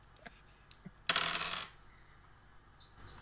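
Dice rolling on a table, a roll to see if an attack hits a pedestrian: a few light taps, then a sharp clatter that rattles for about half a second before settling into quiet.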